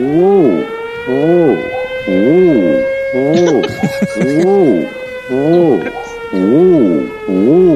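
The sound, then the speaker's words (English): A loud electronic siren-style cacti alarm played from a device warbles in quick, repeating rise-and-fall sweeps over a steady underlying tone, with a brief noisy rustle partway through. “Have you ever heard my cacti alarm?”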